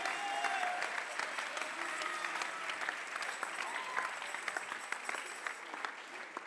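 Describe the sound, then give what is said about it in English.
An audience in a church sanctuary claps to praise God, a dense wash of many hands applauding at an even loudness throughout, with faint voices and a few brief tones drifting underneath. “Somebody clap your hands and give God Alguien praise.”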